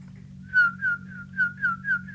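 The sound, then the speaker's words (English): A person whistles to call horses in from the pasture, a quick series of about six short, bright, slightly falling notes in a steady rhythm, over a low constant hum. “How do you get them in out of the pasture? You just whistle for them.”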